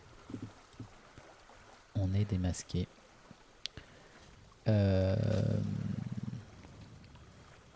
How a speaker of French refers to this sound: Est-ce que ça ressemble à un bateau sur le départ, la corne de brume? Non, ça ressemble plutôt à. Une alerte générale? Une alerte, oui.